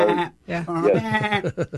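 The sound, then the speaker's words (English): A lamb or goat bleats loudly: a long, quavering, nasal cry that breaks into a few short, stuttering pulses at the end. “That sounds here. More like a lamb.”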